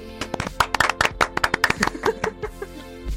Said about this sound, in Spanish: ¿Una película española? Sí. Sí, no puede ser. Un gran aplauso a esto, por favor.